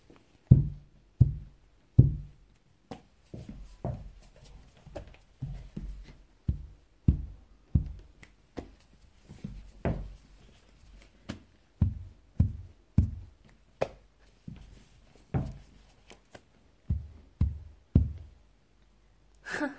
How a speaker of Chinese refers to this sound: 现在顺着第一排同学依次磕头道歉，听到没有啊？而且要用最标准的磕头方式，快一点。